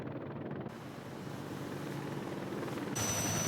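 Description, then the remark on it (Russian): A low-flying attack helicopter approaching a ship at the 3 o'clock position, its rotor chop a steady, rhythmic thudding under a loud, continuous rush of engine and wind noise, with no voices. “Штурмовой вертолет на низкой высоте.”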